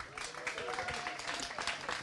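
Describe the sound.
A steady wash of audience applause at a poetry slam, given as an applause vote for one performer, dense and fairly loud, with many hands clapping at once and a few voices calling out faintly beneath it throughout.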